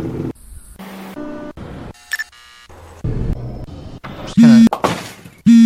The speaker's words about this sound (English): That's a cell phone buzz.